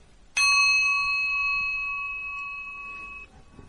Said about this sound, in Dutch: 21 keer samen, dan sla ik met de bel en reciteer jezelf verder totdat je dit ongeveer 100 keer gedaan hebt. Dus na een pauze hoor je weer de bel en dan gaan we verder met andere mantra's.